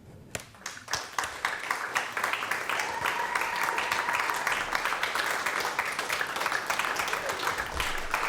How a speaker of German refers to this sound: Sie dürfen klatschen.